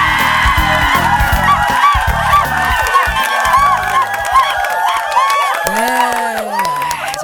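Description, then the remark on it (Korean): A loud audience cheers continuously, with shrill, excited screams rising over a dense wash of clapping that stays strong for the full seven seconds. “장안의 화제, 최고의 꽃미남, 그분을 여러분들의 큰 박수로 모시겠습니다.”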